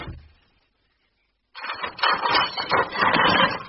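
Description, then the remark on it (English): After a moment of silence, dishes bang and clatter in a busy, continuous jumble of sharp knocks and rattles, loud and unbroken to the end, with no one speaking. “Mr. Larkin is my patient, and banging dishes won't help.”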